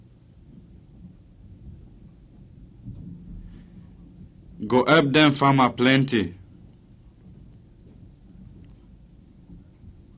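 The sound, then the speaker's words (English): A steady low rumble of rainy-season rain with thunder rolls through the whole recording, fairly soft, while a voice speaks briefly over it near the middle. “It sounds like say this rainy season.”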